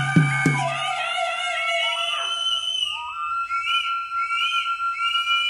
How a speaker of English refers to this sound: Spaniards say the Aztecs used to go out in the streets when the sun was up, which I imagine around noon, and in groups of dancers and musicians. And they started making some noise, whistling and yelling.